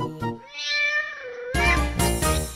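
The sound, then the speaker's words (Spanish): A cat meows: a drawn-out, wavering meow, then a louder, harsher cry that breaks into a brief burst before fading. No one speaks. “Y aquí se acaba la copla de Don Gato enamorado, maramba, miau, miau, miau.”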